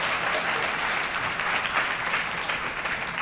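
A crowd applauds steadily, many hands clapping in a dense, continuous wash that holds at an even, moderately loud level for a few seconds with no talking.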